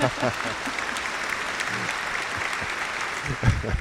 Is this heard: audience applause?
yes